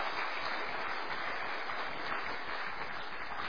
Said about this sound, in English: another wee round of applause for narrating it